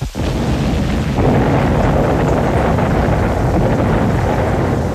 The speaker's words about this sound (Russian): Сверкнула яркая молния. На миг она остановилась в небе, как серебряное дерево. Все осветилось дрожащим, мерцающим светом. Молния вонзилась прямо в острую кровлю дворца. Главная башня дворца покачнулась, наклонилась и рухнула.